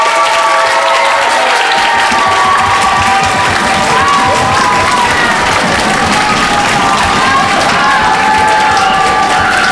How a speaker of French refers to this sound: Et là, vous allez pouvoir, comme on a ouvert tout à l'heure, faire un maximum de bruit pour vous applaudir et vous encourager, s'il vous plaît. Une braillade ! Une belle braillade !